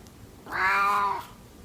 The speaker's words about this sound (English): Okay, I'm going to see how my cat greets me in the morning.